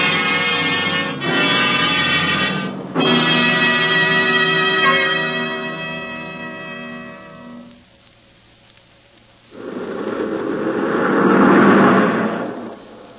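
car driving past

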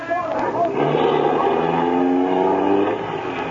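car engine speeding away

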